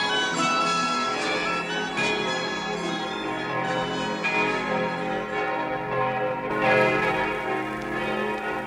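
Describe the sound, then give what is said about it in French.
Many church bells across Paris peal together in full swing, a dense, continuous clangor of overlapping rings that stays loud and steady throughout, with no voices. “Il y a exactement 475 ans, les Parisiens s'éveillèrent au bruit de toutes les cloches, sonnant à grande volée dans la triple enceinte de la cité, de l'université et de la ville.”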